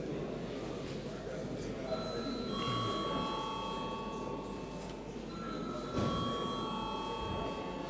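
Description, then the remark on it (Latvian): A bell in the Latvian parliament, the Saeima, summons members to vote after deputies request a vote on sending a bill to committees: a sustained tonal ringing that starts, pauses briefly and resumes, heard at moderate volume over a murmur of many people. “Deputāti pieprasa balsojumu. Lūdzu zvanu.”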